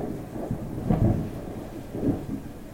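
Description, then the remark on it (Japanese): Low rolling thunder rumbles through steady rain during a thunderstorm with lightning, swelling in two heavy surges about a second apart before settling back into a dull, continuous roar as the rain becomes a downpour. “稲妻が走り雷鳴がとどろいた。”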